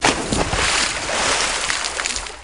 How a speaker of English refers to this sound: The Bugle is now enabling you to collect the sounds of week by week to build up the true sound of the Boston Tea Party. This week, a box of tea falling in the sea.